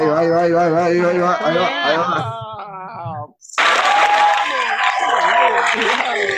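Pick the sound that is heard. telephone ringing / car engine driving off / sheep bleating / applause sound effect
applause sound effect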